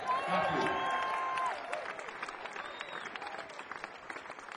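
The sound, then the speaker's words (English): A large audience applauds steadily as band members, including the drummer, are introduced at a show in Westbury, dense crowd clapping with a few cheers and whistles mixed in, loudest in the opening moments then settling into a sustained, even roar of hands. “Back on the drums, a big round of applause for his first time in Westbury,”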